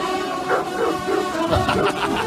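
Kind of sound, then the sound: animal, hunting hounds barking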